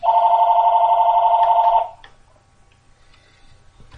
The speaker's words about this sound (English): We got interrupted by the phone.